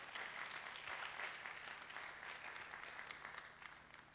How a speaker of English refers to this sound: We give God praise for all those people. Let's clap to Jesus. It's a lot of people.